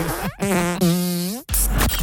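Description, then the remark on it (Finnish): Loud fart noises in quick succession: buzzy, drawn-out blasts whose pitch wobbles and slides upward, ending in a short, sputtering burst. No one speaks. “Tämä äskenen uutinen, minkä kerroin tosiaan, että tämä 25-vuotias daami on lähettänyt pieruvideoita omalle eksälleen, niin ei mennyt kylläkään näin.”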